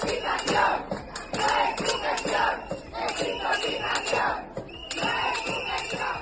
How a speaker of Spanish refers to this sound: Ante la situación, se volverán a escuchar estos pitidos.